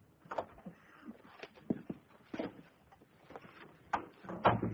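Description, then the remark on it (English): A communicating door being knocked on and opened, with a scatter of short wooden clunks and rattling handle sounds, followed by a louder knock-like thud near the end and no voices. “I left Hadley to do what had to be done and knocked on the communicating door. Come in, Dr.”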